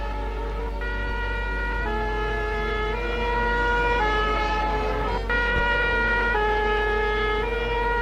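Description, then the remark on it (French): A fire engine siren wails as firefighters arrive, in a steady two-tone pattern alternating high and low pitches about every second, loud, with a low engine rumble beneath and no voices. “Les pompiers arrivent.”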